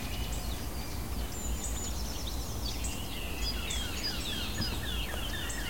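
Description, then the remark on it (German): A blackcap warbler's hard, clicking alarm calls repeat in quick irregular bursts, mixed with other bird chirps over a steady rushing outdoor background. “Die harten Warnrufe der Grasmücke.”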